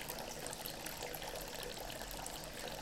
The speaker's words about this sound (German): das, was du da hörst, dieses Gurgeln, das ist ein Bach, der fließt hier durch und dem haben wir Halt gemacht, weißt du, der fließt noch, der ist nicht zugefroren.